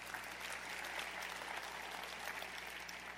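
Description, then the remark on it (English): An audience claps together, giving the Lord a hand clap, a dense, steady wash of many hands applauding without pause for several seconds, with no voices on top. “Go ahead, give the Lord a big hand clap for that.”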